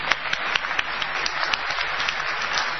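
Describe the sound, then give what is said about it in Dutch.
An audience applauding a contestant's answer during a quiz game about God: a steady, dense wash of many hands clapping at once with brief sharper claps poking through, sustained at an even, moderate loudness with no voices over it. “Applaus, die is goed.”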